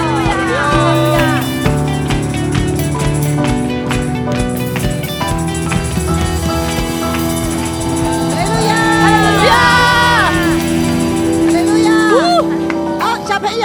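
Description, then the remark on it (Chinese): An audience claps and cheers loudly, giving its applause to the Lord Jesus Christ, with rising whoops and shouts from many voices over steady, sustained music that fills the whole stretch. “将最大的掌声给我们的主耶稣基督，哈利路亚。”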